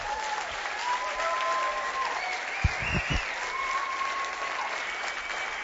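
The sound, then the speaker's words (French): An audience applauds steadily as an acclamation to the Lord, a dense, continuous wash of clapping that holds for several seconds, with a few low thumps partway through and faint tones rising above the noise. “Est-ce qu'on peut donner une main d'acclamation à notre Seigneur?”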